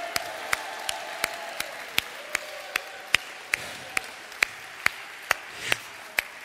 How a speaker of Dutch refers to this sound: We gaan staan met elkaar. En hem een klap op geven. Halleluja. Halleluja, Vader. Yes. Zullen we echt de Heer een klap op geven dat het buiten te horen is.